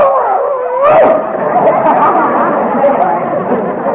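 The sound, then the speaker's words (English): A dog barks and yelps in a short, whining burst, followed by a steady wash of indistinct voices murmuring in the background. “Oh, Mrs. Davis, we can't afford to feed this dog.”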